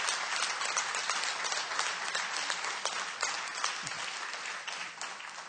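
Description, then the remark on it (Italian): An audience applauds the Lord in worship, steadily for several seconds, a dense, even wash of many hands clapping at once with no voices standing out. “Facciamo un applauso al Signore, diamogli gloria.”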